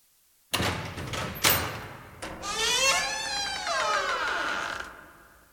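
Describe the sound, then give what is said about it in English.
A door at the end of a hall being unlocked with a key and opened: two sharp metallic clicks of the lock, then a long, creaking hinge squeal as the door swings open, fairly loud, with no voices. “She uses the key and opens the door.”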